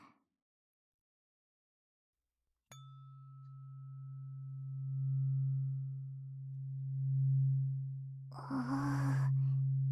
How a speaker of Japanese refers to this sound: ブーンってするね。音で耳の中までブルブル震えて、耳垢が取れやすくするよ。